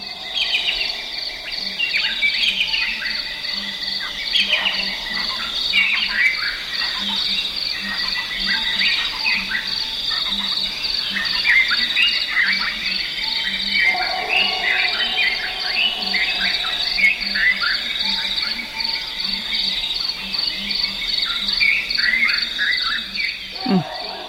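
Owlets, freckled nightjars, Cape turtle doves, ground hornbills and bearded robins call over a dense, steady chorus of insects and frogs, with overlapping chirps, trills and whistles layered throughout, and no one speaking.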